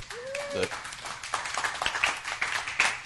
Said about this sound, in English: You're supposed to clap at that point.